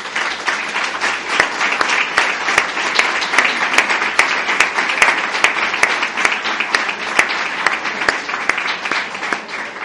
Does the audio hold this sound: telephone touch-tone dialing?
no